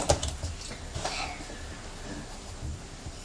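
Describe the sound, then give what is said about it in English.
Soft scratching of an ordinary pencil tracing around a stencil on paper, with a couple of light taps and rustles at the start, quiet and continuous with no talking. “I've got a pencil and I've drawn around it.”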